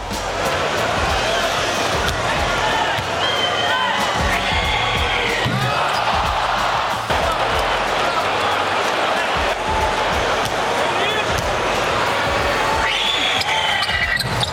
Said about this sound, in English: Right, that scream you heard, every single time the Raptors went to the free throw line, she screamed exactly like that.